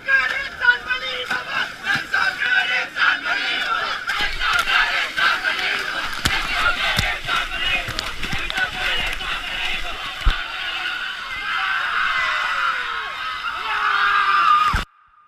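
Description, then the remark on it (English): A big crowd cheers, shrieks, laughs and yells while sprinting over the sand into the Indian Ocean at a river's mouth, with splashing and scuffling mixed in; recorded in 2016. The excited noise stays loud throughout, then cuts off abruptly. “finally on day 21 they reach the river's mouth on the Indian Ocean, and everyone sprints over the sand and into the sea while laughing and crying and congratulating each other, like in this audio from 2016.”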